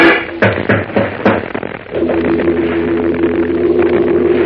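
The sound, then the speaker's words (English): About four sharp knuckle raps on a door in quick succession, then a steady, droning musical tone takes over and holds to the end. “With the sharp rapping of hard knuckles against the door, echoed by the thumping of her heart, Lois presses back against the wall, her eyes wide.”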